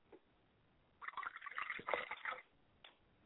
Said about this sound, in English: We believe in the one God today. So we pour a libation for Oluduamare, and we say Ashe.